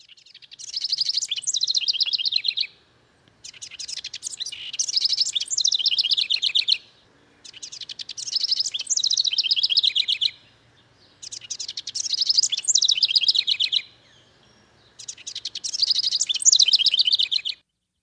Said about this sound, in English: We have the song of a very humble bird, the house wren. But it's a beautiful song.